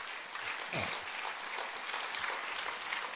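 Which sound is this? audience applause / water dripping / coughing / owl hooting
audience applause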